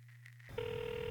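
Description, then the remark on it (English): A telephone ring tone starts abruptly partway through, a steady electronic warble after a brief low hum, heard alone, as if over a phone line, while the caller waits for someone to pick up. “This ain't even my fucking phone. Oh, come on, pick up, dogs.”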